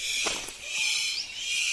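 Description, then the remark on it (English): A male superb bird of paradise gives a few short, sharp calls near the start to attract a female, over a steady high buzzing drone of forest insects that continues throughout. “The superb bird of paradise calls to attract a female.”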